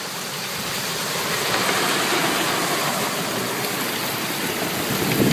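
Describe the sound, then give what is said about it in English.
A vehicle drives through fairly deep standing water around a curve: a steady rush of splashing and churning over a low engine rumble, continuous for several seconds and swelling slightly near the end. No one speaks. “Water here is fairly deep as you go around the curve.”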